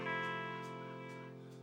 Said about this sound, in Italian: L'eco, senti che eco.